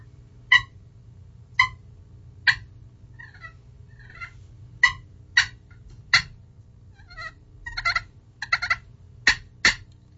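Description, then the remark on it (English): A clear slate friction call, worked by the angle of the striker, imitates a turkey hen feeding on the ground. Sharp, evenly spaced clucks are followed by a run of softer rolling purrs mixed with quicker clucks, clear over a low background hum. “I did the cluck and purr, and that's when they're just on the ground, like, feeding.”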